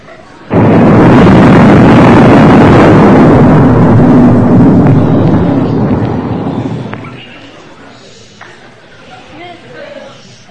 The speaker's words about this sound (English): It sounded like thunder, but I don't know. It was strange. Mom and Daddy, I'm scared. I heard the thunder outside.